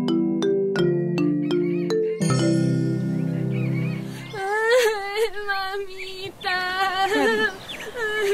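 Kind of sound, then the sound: human body sound, child crying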